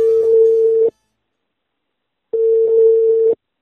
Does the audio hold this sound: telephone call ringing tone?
yes